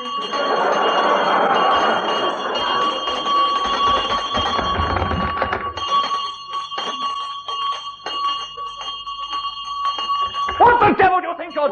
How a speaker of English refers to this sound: No good having a soft bell in a house like this, you know, not this size. It's easy to pull as well, you know what I mean? Every loud bell like that, it's easy to pull.